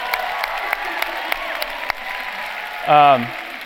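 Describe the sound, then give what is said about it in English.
An audience applauds steadily at a mention of Watergate, a dense wash of clapping with a few sharper claps standing out. Near the end, a single voice lets out a loud whoop that slides downward in pitch. “So Watergate, clap for that.”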